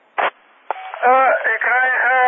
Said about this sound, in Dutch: Ik krijg hem niet mee. Helemaal niet. Alleen maar ruis. Ik moet eerst even overschakelen op een andere transceiver.